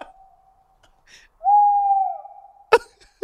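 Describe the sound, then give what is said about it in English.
A Eurasian barn owl gives a long, drawn-out wailing call that swells loud, then trails off, followed by two sharp, brief knocks; no voices are heard. “Eurasian barn owl.”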